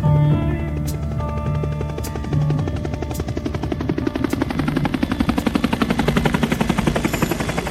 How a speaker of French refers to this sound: C'est de la fenêtre de votre cellule que vous entendiez les hélicoptères passer. Vous n'avez rien vu, vous n'entendiez que le son, comme on vient de le faire.